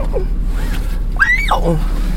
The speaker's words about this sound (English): That was me morning squeak.